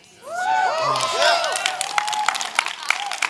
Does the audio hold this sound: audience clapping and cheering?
yes